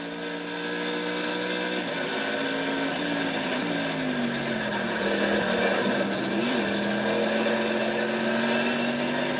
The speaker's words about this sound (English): Just got to love the thump of that V8.